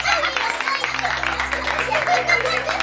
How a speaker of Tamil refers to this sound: இந்த அதிசய காட்சியை பார்த்த ஆண்களும் பெண்களும் குழந்தைகளும் கைத்தட்டி ஆரவாரம் செய்தனர்.